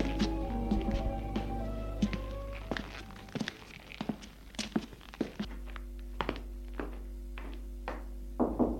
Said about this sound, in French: Arrivé chez ses parents, il va frapper à la porte du bureau de son père.